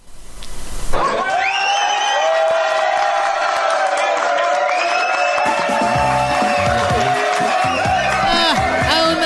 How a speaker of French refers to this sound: Ça s'applaudit, mesdames, messieurs!